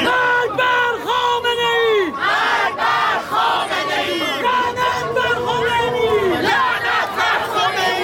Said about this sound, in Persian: هزاران تن در حالی که شعار می‌دادند و نمادهایی از مهسا و دیگر جان باختگان اعتراضات را در دست یا بر سر داشتند، از میدان باستیل تا شهرداری مرکزی پاریس راهپیمایی کردند.